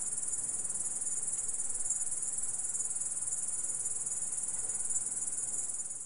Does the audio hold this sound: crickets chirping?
yes